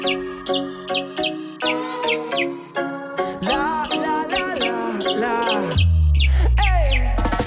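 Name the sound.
robin singing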